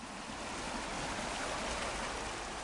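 A steady, unbroken rush of the Kolubara river flowing by the town of Valjevo fills the whole stretch, an even hiss with a soft low rumble beneath, with no voices over it.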